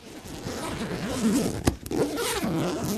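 Camera cases being unzipped: a long, steady rasping zipper pull that runs nearly three seconds, broken by a sharp click and a brief pause partway through before the ripping resumes.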